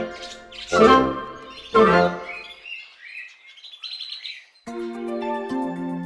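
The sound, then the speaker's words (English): Birds sing in a quick series of bright, rising chirps and whistles, fairly clear, with a couple of louder harsh calls at the start and sustained tones toward the end. “The birds always sang.”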